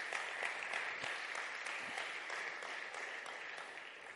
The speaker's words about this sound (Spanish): Dale un fuerte aplauso al Rey.